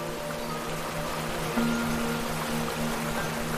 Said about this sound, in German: Über einen langen Steg gelangt ihr direkt über den Abgrund, wo das Wasser in einer gigantischen Kaskade in die Tiefe donnert.